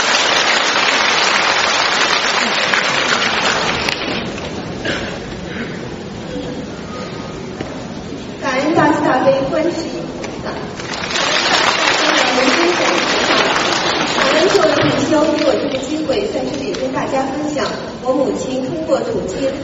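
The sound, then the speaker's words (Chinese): An audience claps steadily for about twenty seconds to welcome a speaker, a dense, crackling wash of many hands that dips briefly, then swells louder again before easing toward the end. “请大家掌声欢迎。”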